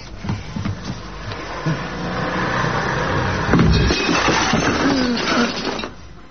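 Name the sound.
vacuum cleaner running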